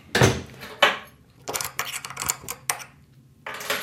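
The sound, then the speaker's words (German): The door of a small, fairly sterile, warm room is pushed shut, a series of sharp knocks and clattering clicks spread over a few seconds as it swings, bumps and latches, with no talking. “Machen wir mal die Tür zu.”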